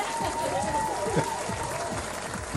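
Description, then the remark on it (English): An audience at the little love church of the Bonobo Way in Bonoboville applauds steadily for a couple of seconds at a clap sign, a dense wash of clapping at an even level, with some voices and whoops rising through it. “Where's the applause?”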